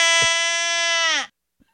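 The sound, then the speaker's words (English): A person gives a drawn-out voiced yawn, a steady, buzzy, moderately loud tone held for over a second before its pitch sags and it cuts off, followed by a tiny click. “Did you know that we have a clip of you yawning?”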